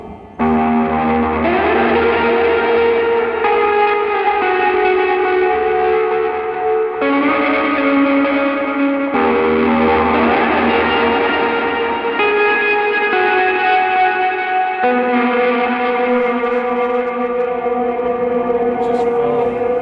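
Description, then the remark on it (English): Loud, sustained electric guitar played through a Walrus Voyager pedal, with a gritty overdriven tone, chords ringing into washy reverb tails that smear between changes, played alone without any talking. “Yeah, and I kind of try to tame off the trails and the reverb, and I'm always stepping on distortions to get it to where it quiet downs quicker and try to keep it in control, which is difficult at that.”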